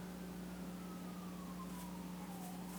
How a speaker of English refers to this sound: There's some sirens again. The COVID sirens are back.